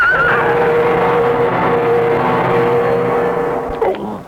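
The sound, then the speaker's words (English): A horse carrying a rider whinnies shrilly amid a loud, continuous scraping and slithering noise, ending in a heavy thud as horse and rider fall on an icy patch of road; intense, with no talking. “With a slithering crash, horse and rider went down.”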